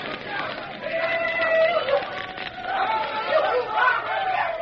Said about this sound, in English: In the gorge, the Indians were yelling frantically as they watched the bridge engulfed in leaping flame and smoke. Then as it crashed into the gorge, it formed a blazing barrier before which they danced and shouted.